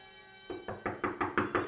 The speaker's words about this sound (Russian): Кто это стучится в двери?